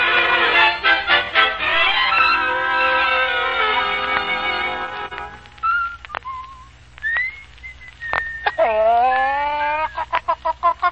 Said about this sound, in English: Ah, you've woken up at last, Rooster.